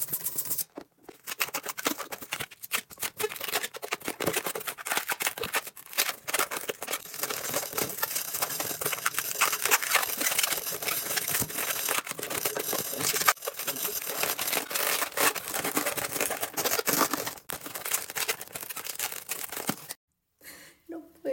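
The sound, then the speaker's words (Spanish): Continuous squeaking and rubbing of balloons being twisted and shaped into a tulip late at night, with dense crinkly friction sounds running for about twenty seconds before a brief pause near the end. “Además, estoy haciendo mucho ruido y es tardísimo.”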